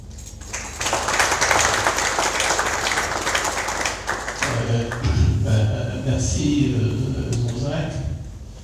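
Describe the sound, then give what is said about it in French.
An audience at a presentation of the book L'État du Vatican, Saint-Siège et la construction de la paix en Afrique claps in a dense, steady roar of applause for about four seconds, then a man starts speaking while the clapping continues more softly underneath his voice. “Merci pour les applaudissements de l'assistance.”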